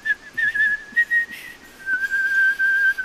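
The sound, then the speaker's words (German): A hawfinch's song in a forest, rendered as a sustained, fairly high whistled melody that glides with small pitch steps and a slight dip, playing on its own without any talking. “Kleiner Donner und ich waren im Wald und hörten Kernbeißer bei seinem Gesang zu.”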